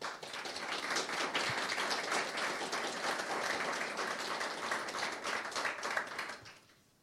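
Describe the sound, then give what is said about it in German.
An audience at an event in Erlangen applauds the event's designer steadily, a dense wash of many hands clapping at an even, fairly loud level for several seconds before fading out at the end. No one speaks. “An der Stelle vielleicht bitte nochmal einen großen Applaus für unsere großartige Designerin, die es leider nicht hergeschafft hat.”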